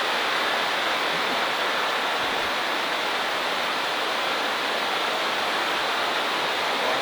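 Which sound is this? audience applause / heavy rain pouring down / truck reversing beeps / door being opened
heavy rain pouring down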